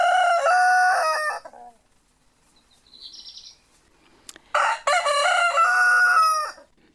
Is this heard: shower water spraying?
no